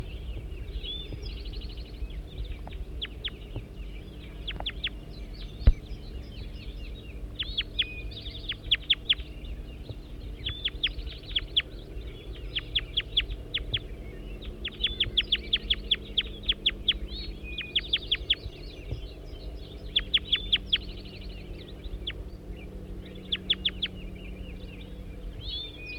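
A recording of bird number 205: repeated sharp, high chirping bird calls come in bursts over a steady low rumble, with clucking fowl-like notes mixed in throughout, and no talking.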